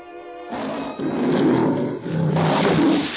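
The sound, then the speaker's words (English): A tiger roars loudly, a deep rumbling growl that rises in two or three long surges over about three seconds, with no voices present. “My tiger! I bet I got him!”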